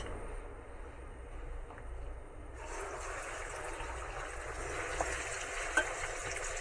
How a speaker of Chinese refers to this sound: 好，我们炸这个鱼片呢，因为我们切得很薄，所以它很快就熟了啊，不需要炸太久。好，好，那整个这个油炸这个锅子 OK 的时候，像这样子就很好，好，已经可以了。我们就把这个鱼片呢放下去。